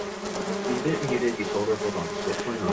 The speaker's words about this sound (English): Dad's in the basement and he's covered in bees.